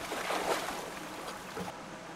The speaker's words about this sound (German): Unter Wasser ist es so still und ruhig, leiser als in der Halle selbst.